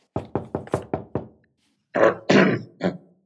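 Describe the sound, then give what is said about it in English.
Six quick, evenly spaced knocks rap on an officer's office door, fairly loud, followed after a short pause by a brief spoken call from a voice. “The officer sits at his desk, meticulously reviewing paperwork, when there is a knock on his door.”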